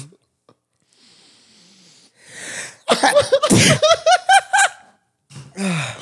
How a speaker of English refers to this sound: Oh my god. It does make you sneeze.